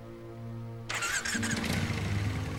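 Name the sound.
motorcycle engine running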